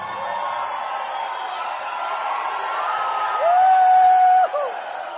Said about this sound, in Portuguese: Vocês podem imaginar o que é para um compositor ver sua música transformada em grito da torcida.